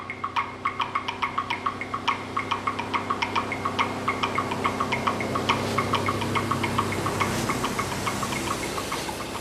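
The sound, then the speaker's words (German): A truck drives past outside, its engine rumbling steadily with a fast, regular ticking knock running through it, holding an even loudness throughout with no voices. “Draußen fuhr ein anderer Lastwagen vorbei.”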